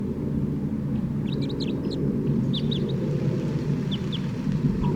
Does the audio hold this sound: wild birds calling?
yes